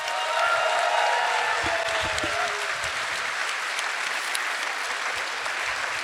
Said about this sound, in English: Clap your hands for Ashy Darren.